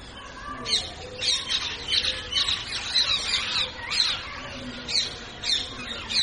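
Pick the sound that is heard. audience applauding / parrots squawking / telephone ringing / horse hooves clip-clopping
parrots squawking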